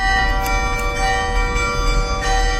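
Bells ring out steadily from the medieval bell tower in the middle of the Grand Place in Béthune, France, with sustained, overlapping tones and a rich metallic hum, struck repeatedly in a continuous peal that fills the space without any talking.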